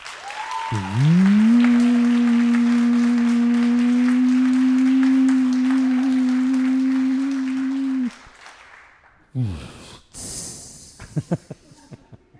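Audience applause at the host's call, loud and dense, runs for about seven seconds under a steady droning tone, then cuts off abruptly, followed by a short whoosh and a burst of hiss.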